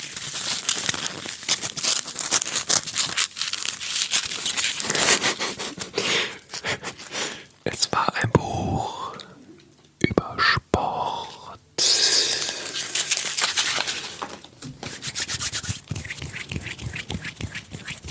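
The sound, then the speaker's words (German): Styrofoam packaging from an ordered book is handled for a long stretch, giving dense squeaky, crinkly rubbing and creaking with brief pauses, continuous and fairly loud with no talking. “Ich hatte mir ein Buch bestellt. Das war eingepackt in Styropor.”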